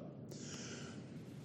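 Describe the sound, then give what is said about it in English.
One short, loud cough bursts out right at the end, after over a second of near-silence with only a soft low murmur and faint tones in the background. “My cough.”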